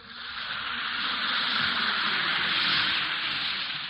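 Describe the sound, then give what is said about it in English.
An Alka-Seltzer tablet fizzes in water, a steady bright hiss that swells gently and holds for several seconds before easing off slightly, with no voices. “Listen to it fizz.”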